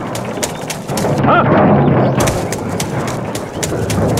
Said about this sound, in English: Those are arrows, by the way.